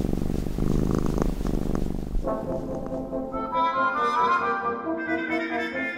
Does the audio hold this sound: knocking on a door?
no